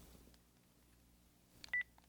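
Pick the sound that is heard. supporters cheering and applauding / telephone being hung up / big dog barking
telephone being hung up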